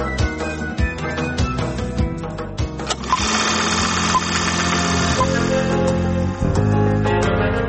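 A film projector running, giving a steady mechanical whir with rapid, rhythmic clattering. Sharper ticks come early on before it settles into a continuous loud rattle, with no voices.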